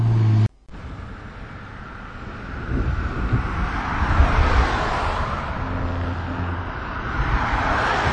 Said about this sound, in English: The cars are coming past, so that's what you hear.